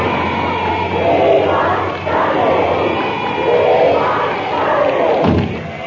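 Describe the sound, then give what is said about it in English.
Hundreds of fans of Hancock outside, waving banners, cheer and roar continuously for about six seconds, the noise swelling and dipping in loud waves with a dull thump near the end. “Listen to that. Well, the slaughterhouse is ready.”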